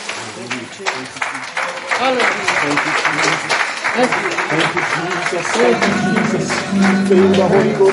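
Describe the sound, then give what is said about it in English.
A church audience claps their hands for the Lord after a baptism, a dense, steady patter of many claps that swells and holds, with voices calling out over it and a sustained tone rising toward the end. “Let's just give the Lord a hand clap today.”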